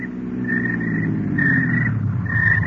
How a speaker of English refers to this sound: I was getting back into my car. Edwards and the servants drove up.